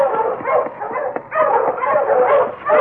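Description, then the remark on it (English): A pack of husky sled dogs coming along a trail in the cold barks and yips continuously and excitedly, their overlapping calls forming a loud, dense chorus with no pauses. “Ho, you huskies!”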